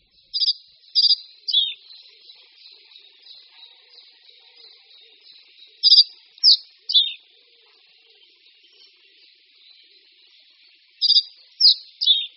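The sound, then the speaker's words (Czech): A reed bunting, a sparrow-sized bird with brown-spotted wings and back, black head, chin and throat, and white moustache and collar, sings short, simple three-note phrases, repeated three times with long pauses between, while faint soft twittering continues underneath. The song is clear, with no voices. “Štrnat rákosní.”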